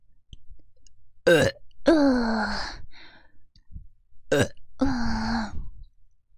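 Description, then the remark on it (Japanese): Loud burps right by the listener's ear come in quick succession: two short, sharp ones each followed by a longer, drawn-out belch, with soft breathy sounds in the brief pauses and no talking. “ゲップするとすっきりするな。”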